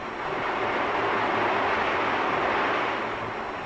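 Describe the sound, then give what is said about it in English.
An Owens vacuum glass bottle machine runs, spinning as its many arms dip into a revolving furnace pot to draw up molten glass, with a dense, steady mechanical roar, a broad rushing rumble that holds at an even loudness for several seconds with no voices. “Here's one of the two basic types, an Owens vacuum machine. A spider-like monster with an insatiable appetite for molten glass. Listen to it.”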